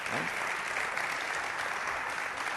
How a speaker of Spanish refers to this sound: estamos dos días al Día de la Mujer, que sí que se merece un aplauso a todas nuestras mujeres, las que nos aguantan, las que no, las que están con nosotros.